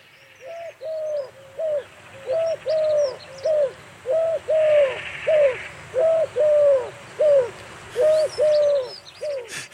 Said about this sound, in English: It first nested in the county of Norfolk in the early 1950s and caused huge excitement. It's the collared dove. Now, very few gardens anywhere in the country are without a pair of this bird.